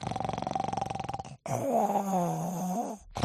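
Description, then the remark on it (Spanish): A person imitates an endless, stubborn kind of snoring nonstop, rasping loudly on the inhale and again on the exhale with barely a gap between them. “Ahí se hace un ronquido de doble dirección, no hay espacio. No ronca mientras inspira y expira.”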